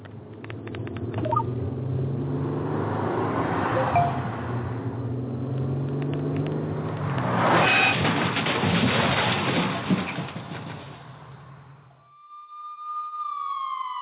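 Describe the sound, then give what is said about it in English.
A car drives along the road as the driver takes their eyes off the road, its engine droning steadily with a noisy surge partway through, then the sound cuts off abruptly and a thin, slightly falling tone follows. “These are the sounds of someone taking their eyes off the road.”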